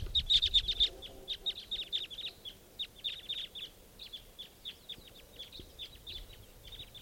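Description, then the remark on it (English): A flock of about eight wild crossbills calls in a rapid stream of short, sharp, high-pitched chip notes, overlapping and uneven in rhythm, fairly loud at first and then tapering slightly. “And I think there's a wild crossbill coming in.”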